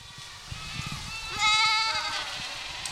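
Dozens of Spanish goats, used to eat non-native plants, bleat in a field of waist-high vegetation in the Mark Twain National Forest in Missouri's Ozarks. One wavering bleat stands out loudly in the middle while others call more faintly around it, over steady outdoor ambience.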